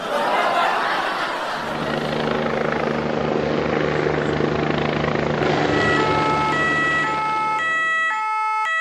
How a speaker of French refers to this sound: Suite au pot de banane jeté sur le terrain, Lola est tombée et le SAMU est venu la chercher en hélicoptère.